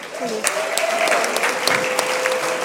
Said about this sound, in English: Without further ado, please welcome, big round of applause, our speaker for this evening